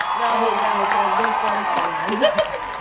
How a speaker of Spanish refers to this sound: Ponte las palmas, acá efecto de palmas.